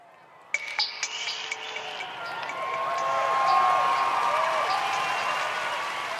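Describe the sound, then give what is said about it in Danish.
A hall audience claps and cheers steadily as the last points of a vote are called out, with whoops and shouts rising over dense applause that swells to a peak midway and then holds at a loud, sustained level. “Stemningen i salen, den er nervepirrende, og publikum hujer og klapper.”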